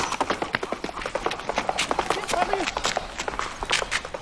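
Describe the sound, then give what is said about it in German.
A small guide horse's quick, steady galloping hoofbeats patter alongside a jogging person's running footsteps, a fast continuous rhythm on hard ground, with faint breathing or a brief voice in the mix. “es gibt ja Leute, die mit ihren Führhunden zum Beispiel auch joggen gehen und sowas. Geht das hier mit so einem Pferd auch?”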